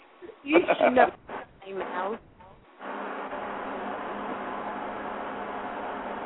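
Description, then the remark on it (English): A few seconds of a voice talking give way to a steady, continuous whoosh of an electric fan running backwards, even and unbroken to the end. “I got my fan going backwards.”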